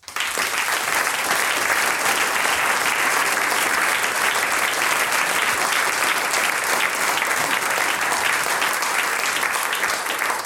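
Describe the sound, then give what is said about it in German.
Steady, dense audience applause from many hands, a continuous crackling wash of clapping that stays loud and even for about ten seconds, with no voices rising above it. “Dankeschön den beiden Tontechnikern Peter Schiri und Andreas Kapfer und vielen herzlichen Dank mit einem großen Applaus auch unserem Aufnahmeleiter Andreas Amreich.”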